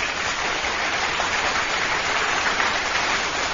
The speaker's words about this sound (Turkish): Size kocaman alkışlar gönderiyorum.